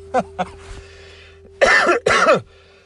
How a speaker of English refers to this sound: And if I were speaking in front of you, you would see the cough.